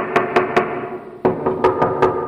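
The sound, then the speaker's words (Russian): Three firm knocks on a door, a short pause, then a second series of about five knocks, sharp, over a steady low droning background. “Страдалица приблизилась к нему, и тот готов уже был вонзить лезвие ножа ей в сердце, как в дверь постучали.”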